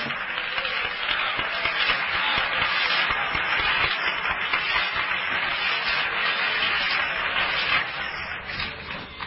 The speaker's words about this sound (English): He's still God. Let's clap our hands.